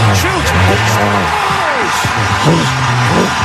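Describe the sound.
A loud, dense roar of an arena crowd cheering after Panarin's game-winning goal for the Rangers, with overlapping yells and whoops forming a steady wall of noise throughout, voices rising and falling within the din.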